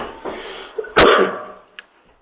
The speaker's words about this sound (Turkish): Alerjim olduğundan öksürüğüme de şimdiden kusura bakmayın, özür dilerim.